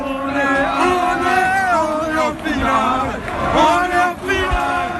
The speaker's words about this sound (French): Des étreintes, des larmes et beaucoup de cris au coup de sifflet final, les supporters parisiens expriment leur joie qui fait trembler les tables de ce bar de l'est de la capitale.